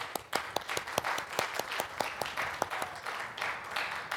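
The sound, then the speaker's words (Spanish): Audience applause for the young people of a church, a dense, steady patter of many hands clapping at an irregular rhythm, fairly loud, with no voices rising above it. “Así que un aplauso a los jóvenes.”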